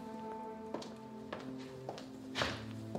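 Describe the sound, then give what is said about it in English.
About five soft, light footsteps tap at a steady pace over a sustained humming musical tone, as a man runs back away. “He runs back away.”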